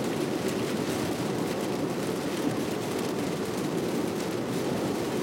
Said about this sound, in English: oh god, it's raining fucking hard